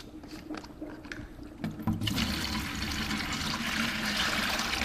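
A few soft handling clunks as a box of yeast samples is opened, then the samples are poured into four huge beer fermenters in a steady, loud, hissing rush that splashes on without a break until the end. No one speaks.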